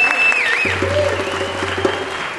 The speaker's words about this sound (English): As many of you know, our phenomenal concert chairs, yes, you can give them an applause.